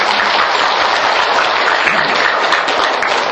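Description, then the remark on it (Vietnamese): A crowd of Buddhist followers at a temple ceremony applauds steadily, a dense wash of many hands clapping at once, loud and sustained without a break for the whole moment, with no voices standing out. “Công đức này phải tán dương đạo hữu hội trưởng, đạo hữu phu nhân, thì cho tràng pháo tay.”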